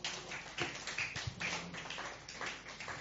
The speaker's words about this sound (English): Yeah, you can clap.